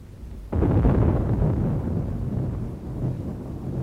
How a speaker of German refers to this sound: Draußen gewittert es.